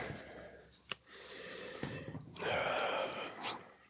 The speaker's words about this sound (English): Lots of sniffing and quiet not talking.